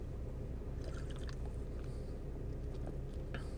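food or drink, slurping a drink

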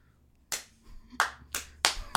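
human body sound, slow clap

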